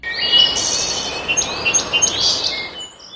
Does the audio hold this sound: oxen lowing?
no